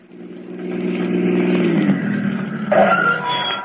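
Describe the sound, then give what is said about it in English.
A car engine revs up and grows louder as the vehicle drives up, its rumbling tone shifting in pitch, with a brief higher mechanical whine near the end; no one speaks. “All right, Duke, get in the car.”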